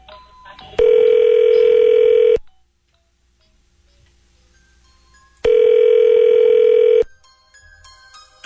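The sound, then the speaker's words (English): Two loud, steady telephone ringback tones, each lasting about a second and a half with a pause between, as a hotel connects a call through to a guest's room. No one speaks. “Can you just, can you connect me to his room?”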